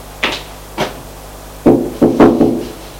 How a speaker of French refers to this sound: Dans le hall d'entrée, ils vont frapper à la porte où c'est marqué accueil.